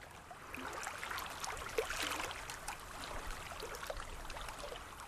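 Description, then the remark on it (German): Gentle lapping canal water, a steady soft slosh and trickle with small irregular splashes throughout, quiet, with no voices. “Das sanfte Plätschern des Wassers. Das Knarzen der Holzstege.”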